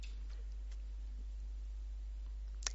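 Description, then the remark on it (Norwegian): A single sharp, short click near the end, a computer mouse button clicking on the title of a procedure on fall prevention, against a quiet, faintly hissing background with no talking. “Jeg klikker på titlen.”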